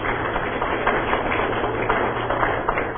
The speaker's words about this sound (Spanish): A mi derecha me permito presentar al doctor Julio Carranza, él es director y representante de la UNESCO. Le solicito un aplauso para él, por favor.